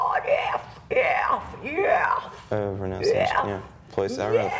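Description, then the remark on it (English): A voice lets out a series of harsh, wailing metal-style screams, each one sweeping up and down in pitch. Several loud, close bursts come one after another with short breaks, no words. “Metal ist pure Emotion und Sänger müssen selbst herausfinden, wie sie den richtigen Ton oder besser gesagt das perfekt wütende Geschrei treffen.”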